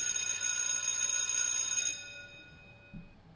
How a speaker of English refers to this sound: I mean, is hit the bell. School's back in session